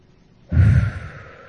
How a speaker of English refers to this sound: Gotta breathe. Breathing is good while you're talking.